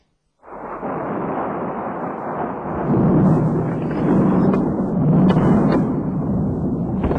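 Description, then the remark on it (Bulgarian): A deep, continuous rumble of thunder rolls in abruptly as a storm begins and keeps growling for several seconds, swelling louder twice as it goes on, with no voices present. “Сега като започне бурята, няма къде и да се подслоня.”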